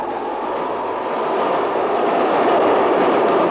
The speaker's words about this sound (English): There's a train coming. Listen to it.